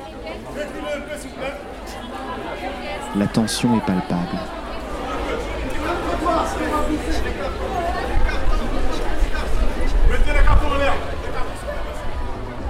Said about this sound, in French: J'observe, j'écoute, je m'informe, je questionne, et l'on m'indique que dans quelques minutes se déroulera le défilé printemps-été 2019 du créateur Simon Porte-Jacquemus. Le portier organise la foule qui s'impatiente.